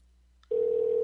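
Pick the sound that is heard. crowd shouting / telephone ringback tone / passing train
telephone ringback tone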